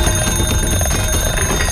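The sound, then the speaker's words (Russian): An alarm clock rings loudly and continuously, a dense metallic jangle filling the whole moment without pause, with no voices over it. “А может, поставить тебе самый большой в мире будильник?”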